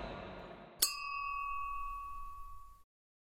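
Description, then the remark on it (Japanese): A single bright clink of glasses raised in a toast rings out after a brief murmur of voices, its clear tone lingering and slowly fading for about two seconds. “君モル雑談に乾杯。”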